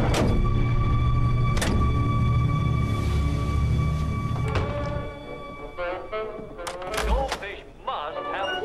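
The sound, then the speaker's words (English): A woman closes a door, which swings shut with a solid thud, cutting off a low background rumble. An earlier knock-like bump is heard, and a voice speaks in the quieter space afterward. “She turns away and closes the door, grimacing, and sinks to her knees.”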